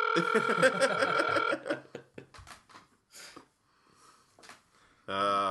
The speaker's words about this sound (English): see? It's ringing. Not going to answer my phone call.